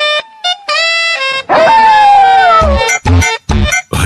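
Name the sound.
dog howling and barking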